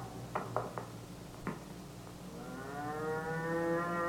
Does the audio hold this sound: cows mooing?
yes